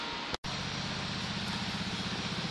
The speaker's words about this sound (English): it has a automatic roll of material that just stretches the plastic over about like Saran wrap at home